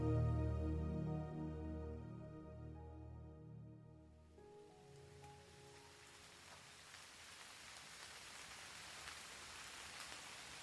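A warm musical drone fades away, giving way to a steady, gentle hiss of rain falling continuously outside a window, soft and even with no voices.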